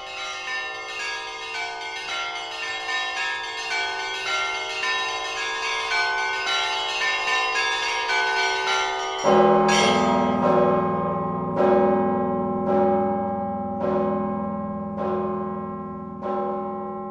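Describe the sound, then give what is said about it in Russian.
Church bells ring in a rich, layered peal, small bells chiming rapidly at first, then a deep heavy bell joins with repeated strikes about every second or two, loud and resonant with no talking. “Цикл передач священника Павла Радина о колоколах и колокольном звоне”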